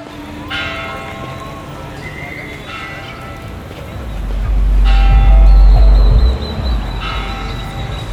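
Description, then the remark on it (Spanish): The three bells of the cathedral on the Zócalo, the main plaza of Mérida, ring out on a hot day in a slow series of resonant strikes, their tones lingering and overlapping above a busy outdoor backdrop with a heavy low rumble swelling midway through. “Esas son las tres campanas en la catedral.”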